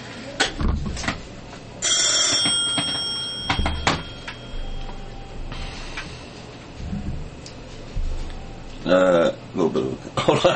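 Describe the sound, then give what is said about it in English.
A telephone rings in short bright bursts, with steady ticking and room noise in the background and a voice speaking briefly. “We won't be answering that phone.”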